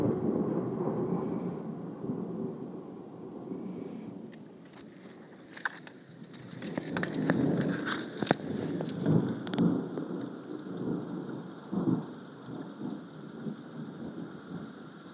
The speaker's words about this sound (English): There's no lightning yet, just thunder and rain. Seems to have eased off a bit.